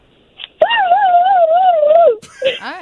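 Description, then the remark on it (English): A woman imitates a turkey gobble to finish a song lyric, with one long, high, wavering warble that sounds almost like a whimpering puppy, followed by a couple of short rising yelps. “Then right after that, you finish the lyric with the gobble, okay?”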